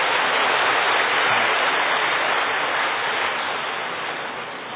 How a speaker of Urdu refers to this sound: بہت اچھا، مبارک ہو، تالی بجاؤ اپنے لیے.